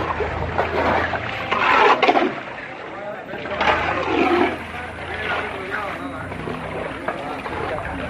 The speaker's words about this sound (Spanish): Es el cepillo de Nadal achicando agua, insisto, como uno más en San Llorenç, donde nadie miraba para Rafa.